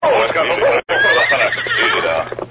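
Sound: horse neighing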